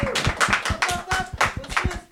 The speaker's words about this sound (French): Et puis, je ne sais pas, vous voulez vous applaudir? J'entends des applaudissements là, voilà.